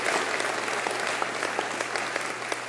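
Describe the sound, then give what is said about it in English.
A church audience applauds people for using their talents, many hands clapping in a dense, even patter of sharp claps that holds at a constant level without talking over it. “Could we give them a hand of applause for the, using their talents?”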